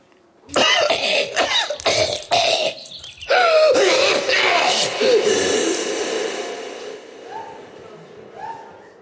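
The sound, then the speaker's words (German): A burst of several harsh, close coughs in quick succession, followed by a longer, rougher hacking cough that trails off into a reverberant, fading echo. “Oder habt ihr einen speziellen Huster, den ihr noch mal hören wollt?”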